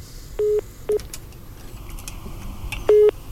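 Several short electronic keypad tones beep at irregular intervals as a phone number is redialed, fairly loud over a faint background hiss with no talking.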